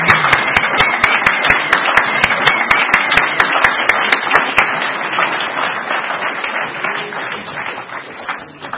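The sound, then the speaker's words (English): An audience at a meeting applauds steadily for about nine seconds to welcome a speaker from the Fifth Tradition group, with a crisp, regular clapping beat running through the first half before the dense applause carries on and eases slightly at the end. “So please, everyone, give him a warm welcome. How about a big hand?”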